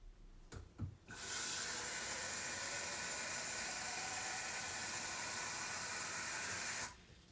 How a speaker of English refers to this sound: So I've got my travel flask here because we'll make the coffee for my train journey. I'm going to pour some water into it.